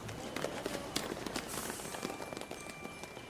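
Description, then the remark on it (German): Quick, steady footfalls of someone running, fairly loud, a rapid series of sharp thuds over a busy outdoor background with no talking. “Und es wird gelaufen.”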